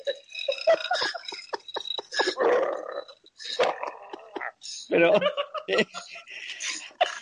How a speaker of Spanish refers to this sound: Pero he descubierto la voz que tiene el koala. Y atención, escucha cómo suena un koala.